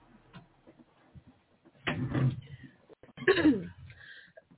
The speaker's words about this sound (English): So I apologize that this show is filled with me coughing and clearing my throat.